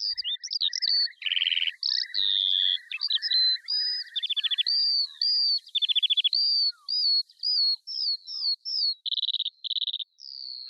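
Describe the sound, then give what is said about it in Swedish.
A Eurasian skylark, an early spring bird, sings continuously, a rapid, unbroken stream of high warbling trills, buzzy rattles and chirps, loud, with no voices or other sounds. “En tidig vårfågel, sånglärkan, fick illustrera Ann-Sofie Karlssons längtan efter våren.”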